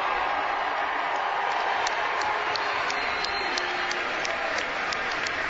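A large arena crowd at a Chicago Blackhawks event roars and applauds as Chairman Rocky Wirtz is introduced, a steady, dense wash of cheering and clapping that holds loud and unbroken, with scattered sharp claps standing out above the noise.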